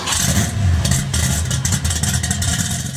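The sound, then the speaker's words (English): A car engine revs loudly and steadily for a few seconds in a car garage, a deep rumbling roar with a gritty, clattering edge and no voices. “the real question is, why are the two of us filming this in a car garage?”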